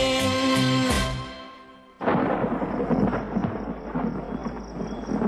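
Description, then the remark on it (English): A song fades out, then a sudden loud crack of thunder bursts in, followed by a steady, dense wash of heavy rain and rumbling that continues to the end. “Such a pretty song. Spoiled by the weather, you see.”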